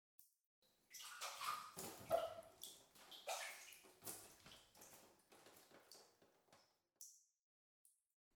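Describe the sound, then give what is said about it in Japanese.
Water sloshes and splashes in a bathtub as someone rises out of it to go wash their body, a burst of busy splashing that thins into a few scattered drips and trickles. “では一旦上がって体の方を洗いましょうか。”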